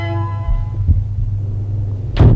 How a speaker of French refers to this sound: La porte de la chapelle qui s'ouvre. Apparaît le pape.